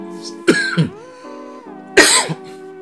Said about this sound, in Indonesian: Duh, sorry, batuk nih.